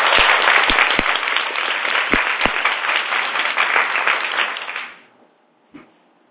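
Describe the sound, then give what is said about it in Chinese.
An audience breaks into dense, steady applause of encouragement that holds for about five seconds, with a few sharper claps standing out, then fades quickly to near silence. “很好，掌声鼓励一下。”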